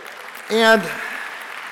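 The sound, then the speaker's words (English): An audience claps as the speaker introduces his wife, daughter and son-in-law, a dense, even patter of many hands, with a short voiced cheer rising over the applause early on before the clapping continues at a moderate level. “we keep the applause going, okay.”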